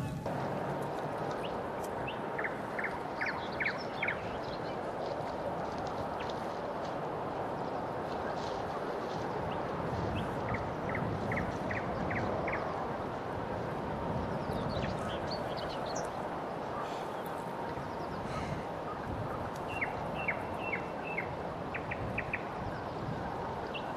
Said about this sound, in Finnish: Ja kun tultiin tänne, niin hämmästyttävää kyllä yössä lauloi sata kieli. Kuunnellaan vähän aikaa sitä.